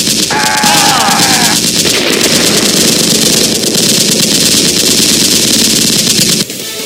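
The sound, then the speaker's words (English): Loud, sustained bursts of rapid automatic gunfire rattle almost nonstop over a low rumbling drone, with a brief higher whine early on, before the shooting cuts off abruptly near the end, during a shootout in Springfield, Illinois in which three men are killed. “The three men responsible have just been killed in a shootout.”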